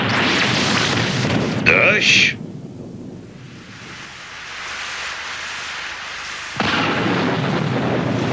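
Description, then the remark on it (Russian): Steady rain hisses throughout, with a loud thunderclap and rumble near the start, a sharp tonal burst, then the downpour softens before swelling heavily again toward the end. “Дождь. Ну и что, пусть себе льет.”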